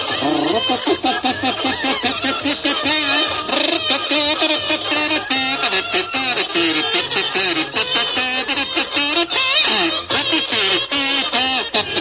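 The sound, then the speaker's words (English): A loud, nonstop stream of nasal quacking, the choppy honks tumbling over one another in a rapid, chattering jumble for the whole stretch with no pauses. “Cut out that quacking.”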